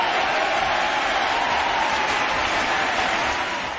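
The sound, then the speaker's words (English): A crowd applauds a band loudly and steadily, a dense wash of clapping that holds at full strength for several seconds before easing slightly at the end. “Alright then, give … a big round of applause, you lovely people!”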